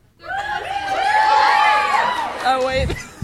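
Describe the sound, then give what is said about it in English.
A crowd screams and cheers together to answer yes to whether Albus and Rose will get married, a loud, high-pitched burst of overlapping voices that swells for a couple of seconds, then breaks into scattered shouts and laughter. “Do you think Albus and Rose will get married? If yes, scream.”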